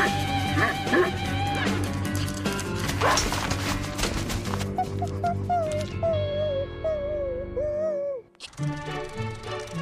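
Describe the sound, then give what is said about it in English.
A dog barks and yips, a few sharp barks followed by drawn-out, whining calls, all over a busy, dense background that drops out briefly near the end. “Wait, that's not my dog.”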